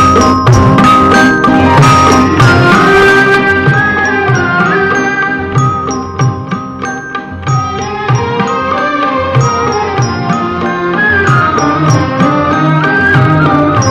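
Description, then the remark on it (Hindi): A loud, full instrumental introduction to a patriotic national song, with layered melodic lines and bright chiming accents playing steadily throughout, and no voices. “चलिए साहब, आपको एक खूबसूरत कौमी नगमे की तरफ ले चलता हूँ मैं।”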